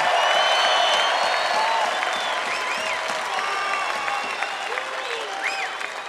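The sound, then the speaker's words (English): A concert audience claps steadily and loudly, a dense wash of applause with some whoops and cheers rising over it, fading slightly toward the end. “You should give yourselves a big round of applause.”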